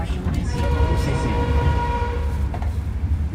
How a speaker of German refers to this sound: Der Zug stoppt in Luang Prabang. Viele Fahrgäste steigen hier aus.